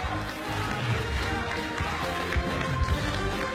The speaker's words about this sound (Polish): Zapraszam serdecznie i proszę o ogromne brawa.